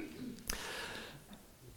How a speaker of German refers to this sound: Muss man mal ein bisschen räuspern.